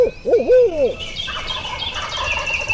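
A loud, wavering owl-style hoot, a person's voice imitating the call at daybreak in a glade during a turkey hunt, rises and falls for about a second, followed by a busy wash of bird chatter and calls outdoors.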